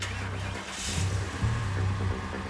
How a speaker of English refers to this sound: A car roared to life behind the creature. A young woman behind the wheel hastily pulling out of her parking space.